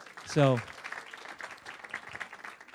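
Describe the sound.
An audience breaks into a steady patter of applause, a dense, even wash of clapping that carries on throughout, with a brief loud voiced shout near the start.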